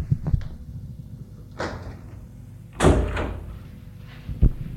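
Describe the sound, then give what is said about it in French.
A door being closed: a couple of soft knocks and a brief swish of movement, then a louder latching thump with a short rattle, and one last dull thud. No voices. “Il le fait entrer et ferme la porte.”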